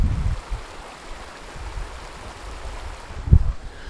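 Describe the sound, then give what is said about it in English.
Water rushes steadily over a mountain stream bed in a continuous hiss, broken by a couple of brief low rumbling thumps near the start and end; heard standing in the stream bed on a mountainside under black clouds, with thunder rumbling overhead. “I, standing right here on the side of a mountain, underneath black clouds, with thunder rumbling overhead, surrounded by water.”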